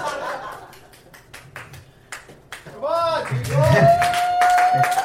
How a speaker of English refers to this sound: Come on! who apparently gets a round of applause when he walks into my house.